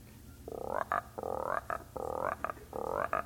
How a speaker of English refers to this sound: Frogs, we got little frogs, medium-sized frogs, and bullfrogs. Ribbit, ribbit, ribbit.